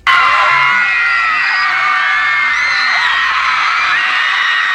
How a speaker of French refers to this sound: on crie pour les …, on crie aujourd'hui pour … ou les …, hystérie collective pour des chanteurs trop beaux